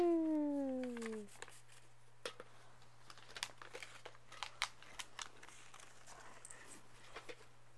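After a short falling vocal sound, pieces of paper are rolled and crinkled, rustling in scattered, irregular crackles and small crunches over a low steady hum, moderately quiet throughout.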